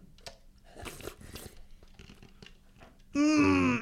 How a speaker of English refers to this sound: Did we get an ice crunch there as well? Did I hear that? Yes, you did get an ice crunch.